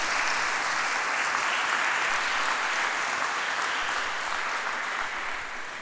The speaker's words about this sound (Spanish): Le damos un aplauso al rey.